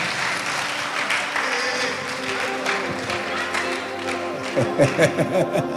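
An audience claps steadily, a dense, continuous patter of many hands lasting several seconds, with voices and cheers rising louder over the applause toward the end.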